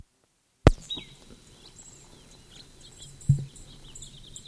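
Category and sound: bird, bird song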